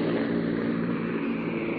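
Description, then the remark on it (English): A steady, loud engine drone fills the whole stretch, a dense low hum with layered harmonics and no pauses, the propeller engines of a C-47 transport plane heard from inside the plane as paratroopers jump over Dutch soil. “Ed Murrow, from inside a plane, described how the paratroopers jumped.”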